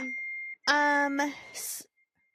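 An Apple iPhone's default text message alert tone: a short sequence of clean electronic chime notes, loud, followed by a brief hissy burst before it falls silent.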